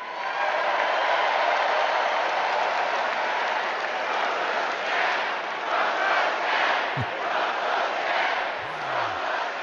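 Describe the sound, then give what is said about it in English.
A large crowd roars and chants "Trump's a scab" in unison, loud and sustained, with rhythmic surges of voices and cheering blending into a dense wall of noise. “And the crowd repeating, Trump's a scab. With enthusiasm.”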